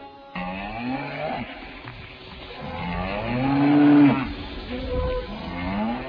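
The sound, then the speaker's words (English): A herd of grazing cows in Vrindavan low and moo at once in overlapping, drawn-out calls, loud, with one especially strong bellow swelling near the middle before the chorus carries on. “When Sri Chaitanya Mahaprabhu passed through Vrindavan, herds of grazing cows saw him pass, and immediately surrounding him began to moo very loudly.”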